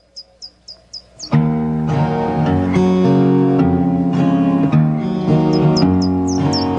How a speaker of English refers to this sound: Little Tweety Birds, because spring is coming.